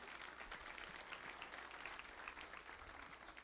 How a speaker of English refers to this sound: Come on, give the Lord a good clap offering, would you?